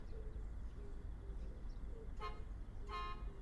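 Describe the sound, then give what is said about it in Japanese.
Two short horn honks from an arriving bus ring out about a second apart over a steady low rumble of the idling bus, clear. “あ、本当にバスが。”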